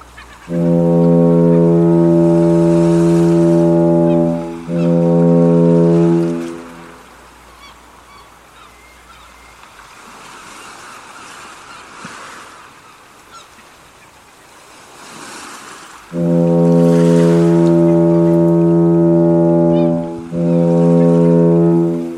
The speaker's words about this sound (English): The foghorn bleated for its final time that saturnine morning.